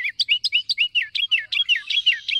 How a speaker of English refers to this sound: Sometimes it seems that the smaller the bird, the bigger the voice. Some of the noisiest species in the Americas are the wrens, their loud chants and trills all out of proportion to the slightness of those slender bodies.